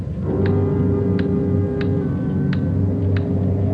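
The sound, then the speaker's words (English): A loud clock ticks steadily and distinctly, about five sharp ticks at an even pace, over a constant low rumbling background of wind on a windy day. “Loud clock, ain't it?”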